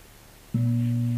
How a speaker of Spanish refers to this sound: Siempre que son el gong, observamos cómo está nuestra mente.